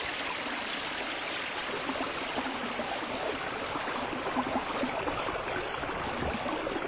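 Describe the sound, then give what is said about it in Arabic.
A small river flows steadily, with continuous bubbling and gurgling water and no voices, the rushing texture holding even from start to finish. “صباح الخير أيها النهر الصغير.”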